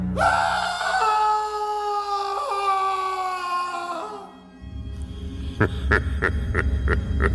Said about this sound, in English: But for one of them, it is a grim and horrid moment. Cue scream.